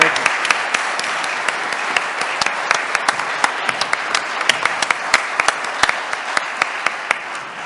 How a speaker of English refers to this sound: And I knew it was going to be a disaster, and I shouldn't have because of the professionalism of the crew up there, but will you please join me in just sharing a round of applause for these guys?